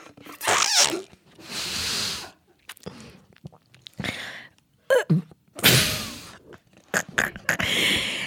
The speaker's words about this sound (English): For my listeners that didn't know what those sounds were, I will explain. First sound was me taking a sip. Second sound was it getting clogged in my throat and causing a burp.